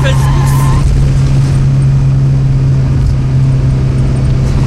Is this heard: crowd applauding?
no